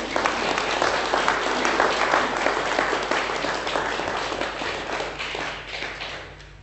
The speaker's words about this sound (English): A round of applause